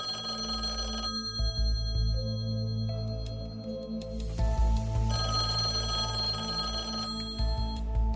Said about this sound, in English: Oh, there's a phone call for you.